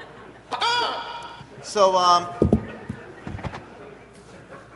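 A squeezed rubber toy chicken gives two loud, nasal squawks: a shorter honk, then after a brief pause a longer, wavering squeal as it is released, followed by faint rustling.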